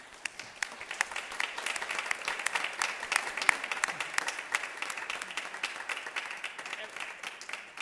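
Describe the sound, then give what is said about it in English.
An audience claps steadily for about eight seconds as students who have finished a course of study come up to the front, a dense, crackling patter of many hands at a fairly even, moderate loudness with no clear rhythm. “And we can give them a clap as they're coming up.”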